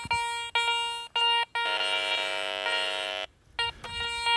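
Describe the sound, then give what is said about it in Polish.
A metal detector beeps during a search for artifacts in a forest: a run of short, bright electronic tones, then one long sustained tone, then a few more quick beeps. Nobody speaks. “Wykrywacze w dłoń.”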